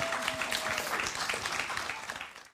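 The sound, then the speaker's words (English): An audience applauds steadily for Joseph at the end of an event, a dense patter of many hands clapping at even loudness for a couple of seconds before cutting off abruptly. “Let's give Joseph one more round of applause.”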